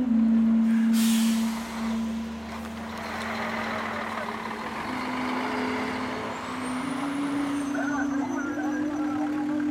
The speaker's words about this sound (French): les camions turcs arrivent ici, passent ce point de frontière, entrent dans le No Man's Land et puis ils vont décharger leur cargaison qui va être transbordée à bord de camions syriens